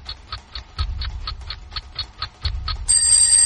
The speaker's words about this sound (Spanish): Es 24 de junio, pero de 2016, primera hora de la mañana, suena la alarma.